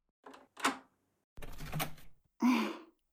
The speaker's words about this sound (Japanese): うわぁ、本当に来た。今鍵開けるからちょっと待ってて。